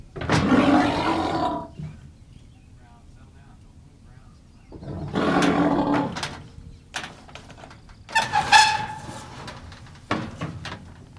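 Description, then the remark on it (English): Brown, a muskox cow closed off in a chute in a milking barn, bellows in protest: three loud, deep, rasping roars separated by pauses, with some clattering and knocking between and after the calls. “It's a move that settles the issue, but has Brown now closed off in a chute and in a mood to offer her protest.”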